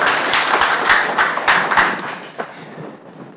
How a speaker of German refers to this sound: Auch sehr schön, hat einer was mitgemacht hier. 10 Applaus bitte,